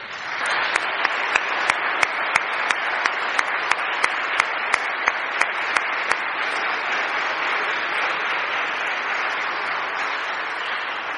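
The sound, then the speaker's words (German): Sustained audience applause for a gospel choir and a brass choir at a church service, a dense, steady wash of clapping lasting about eleven seconds, with a run of sharp, evenly spaced louder claps standing out in the first half. “Und ich finde, beiden gehört ein kräftiger Applaus.”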